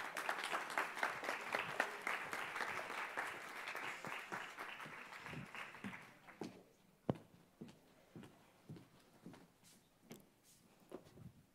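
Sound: audience applause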